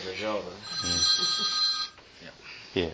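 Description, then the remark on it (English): A phone rings with a steady electronic trill for about a second, clearly audible over people talking. “The fact is, and I'll let you turn that phone off”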